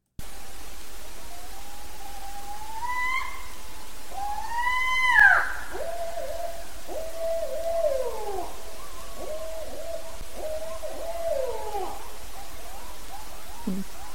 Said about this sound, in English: The last one I wanted to talk about is when you know you're really, really close to the owl. It gives an alarm call, and that is the scream.